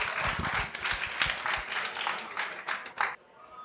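An audience breaks into sustained applause, many hands clapping in a dense, crackling wash that holds steady for a few seconds before cutting off abruptly.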